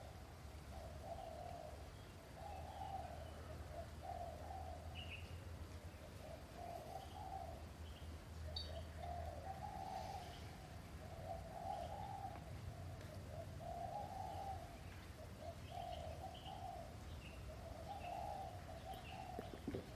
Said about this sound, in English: Your eardrum is vibrating and making contact with the sound of the birds and the creatures outside of the building. You're feeling that.